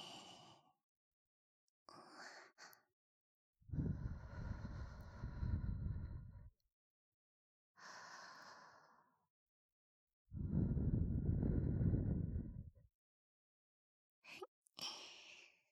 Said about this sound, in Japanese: それじゃ最後はお耳ふうふうしてあげるね。